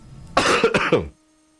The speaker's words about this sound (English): before I kill myself coughing